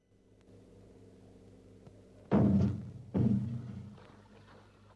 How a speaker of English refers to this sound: The rowing boat knocks against the hull.